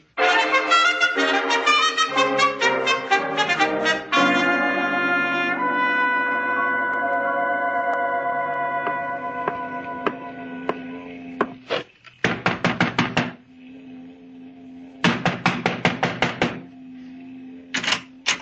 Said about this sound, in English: You knock too loud